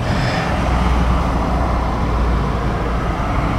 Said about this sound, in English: it's a lot of buses, I'm sorry.